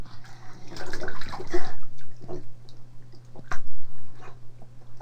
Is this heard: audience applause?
no